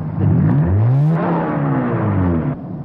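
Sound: car engine revving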